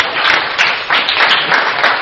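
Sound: round of applause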